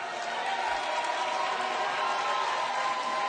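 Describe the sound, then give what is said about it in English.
An audience in a church claps hands for God, a dense, steady wash of clapping that stays loud and even throughout, with no single claps standing out. “Just give God a good hand clap.”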